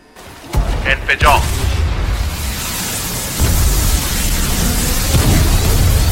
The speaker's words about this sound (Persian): انفجار.